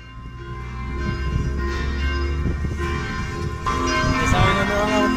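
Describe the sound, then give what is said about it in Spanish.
Church bells ring steadily with dense, overlapping metallic tones, sounding full, marking the start of Mass, heard outside the José Martí School in San Isidro de Heredia, under a busy wash of outdoor crowd noise and some indistinct voices. “Eso era lo que se escuchaba a las afueras de la Escuela José Martí en San Isidro de Heredia, justo en el momento en que las campanas de la iglesia marcaban el inicio de la misa.”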